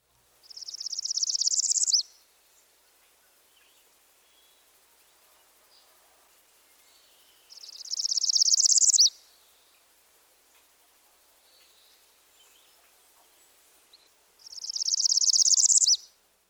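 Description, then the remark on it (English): A black-throated green warbler sings three times, each high, buzzy phrase gliding smoothly upward to the top before ending, with several quiet seconds between songs. The bird sounds clear. “While the song just heard progresses by discrete steps, another variation glides to the top.”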